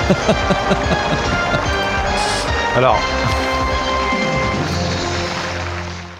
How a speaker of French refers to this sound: on a même, le public qui applaudit, c'est génial.